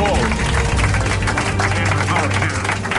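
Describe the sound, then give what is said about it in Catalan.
An audience applauds steadily for about three seconds, a dense, even wash of many hands clapping at once, with some voices mixed in underneath. “Podeu aplaudir.”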